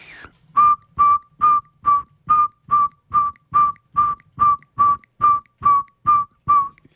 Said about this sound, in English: But they don't call much outside of this brief period in March and April. And beyond that, very little calling goes on for the saw-whet owl. But it's a sound much like the backup alarm on a truck. So it goes something like this.